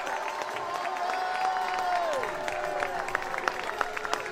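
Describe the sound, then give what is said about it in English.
A crowd at an open-air procession between the original sites of the Azusa Street Revival claps and cheers together, a dense wash of applause with shouting voices rising over it and sharp individual claps standing out toward the end. “The Bible says, clap your hands, all you people, shout unto God with a voice of triumph.”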